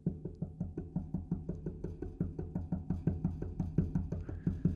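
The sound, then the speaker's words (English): Rapid, steady knocking on a door at 2 a.m., about four dull thuds per second, continuing without pause. The knocks are fairly loud, and no one speaks. “And you're like, oh my goodness, who is knocking at my door?”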